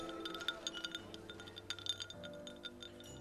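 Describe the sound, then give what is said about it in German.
Several glasses clink together in a toast in quick succession, bright ringing taps repeating over a few seconds against a low background hum, fairly clear with no talking. “Prost auf uns. Prost.”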